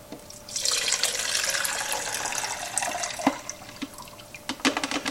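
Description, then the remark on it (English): Liquid is poured steadily into a beaker for several seconds, a continuous splashing rush that ends with a few scattered drips and clinks, with no voices. “I'm just going to go ahead and dump this in my beaker.”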